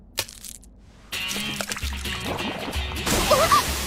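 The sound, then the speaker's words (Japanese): A short tap, then a sudden loud, sustained fizzing gush as cola erupts after candy is dropped in, foaming and sloshing steadily for several seconds. “コーラに特定のキャンディーを入れると一気に中身が吹き出される。”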